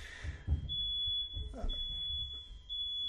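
A household smoke alarm emits a shrill, steady high-pitched tone that holds for long stretches with only a brief break, ringing over low room rumble and faint murmuring in the background.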